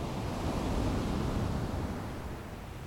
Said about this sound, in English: As you turn back, you see the waves full of energy as they break on the sand. You can hear them. The strong onshore breeze brings a light spray which tingles on your skin.